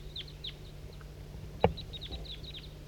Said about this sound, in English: 4-3 at the tail top is calling in a flock of birds.